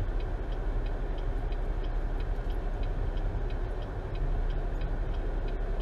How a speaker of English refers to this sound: Hashtag 5 o'clock traffic. No, I'm not calling it that. That's stupid. I am sitting in it, though.